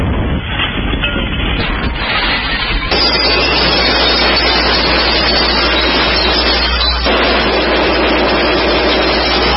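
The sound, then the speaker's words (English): A Honda portable generator engine runs with a loud, steady drone throughout, a constant low hum under a broad, rough mechanical roar, without pause. No one speaks. “thank goodness, to our Honda generator we picked up from Home Despot.”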